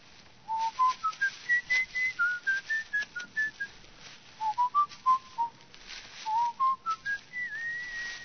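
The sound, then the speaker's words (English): Someone whistles a melodic tune in clear, steady phrases, the notes rising and falling with short pauses between lines. The whistling is moderately loud, with no talking over it. “What's that you're whistling?”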